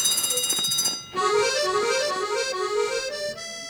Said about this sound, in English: What the heck? That's the air monitor alarm! There must be contamination coming up from the repository!